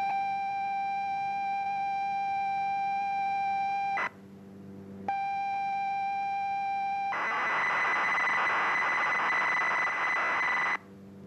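Computer program data tones broadcast over the radio: steady electronic tones with a harsh, buzzy data screech, a constant carrier tone, a brief pause, then the tone returns and bursts into dense noisy warbling before cutting off. No voices.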